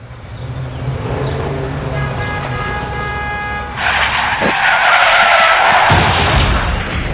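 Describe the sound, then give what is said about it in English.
A car's tires squeal in a long, loud skid, rising into a harsh screech, with a thudding crash partway through and road noise underneath. “This can't be happening. Look at my car.”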